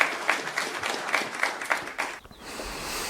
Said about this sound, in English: And the crowd applauded.